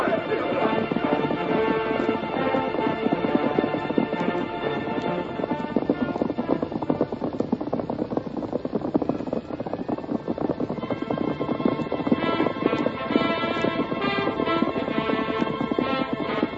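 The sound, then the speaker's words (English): Horses gallop steadily, hooves clip-clopping in a fast, continuous rhythm that stays loud throughout, with a swelling musical backdrop underneath and no one speaking. “Just keep him in sight as long as you can. That white horse is easy to see.”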